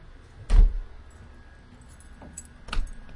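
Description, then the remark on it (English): A door slams shut with a sharp, heavy bang, followed a couple of seconds later by a second, softer thud. No one speaks, only a faint room hum underneath. “Should that door slam still sound pretty bad?”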